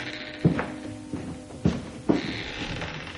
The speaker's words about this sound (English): The door was opened by a servant.